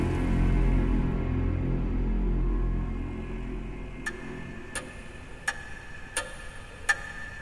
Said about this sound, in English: She hears the tick-tock of the clock next to her.